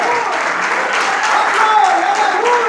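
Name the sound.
audience applauding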